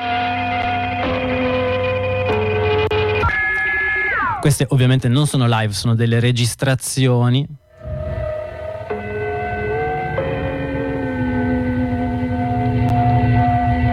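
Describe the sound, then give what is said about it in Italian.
Sustained, ringing gong-like chime tones from the prelude of the numbers station called Gong Station Chimes hold and shift in steps, with a warbling, wavering passage midway, while a man speaks over them. “Questo è il preludio di cui parlavamo, che sembrano dei gong, delle campane.”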